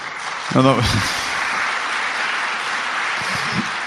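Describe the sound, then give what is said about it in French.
Audience applause for Lyon, a steady dense wash of clapping that holds evenly for several seconds, with a brief voice calling out near the start. “Non, c'est vrai que Lyon mérite quelques applaudissements.”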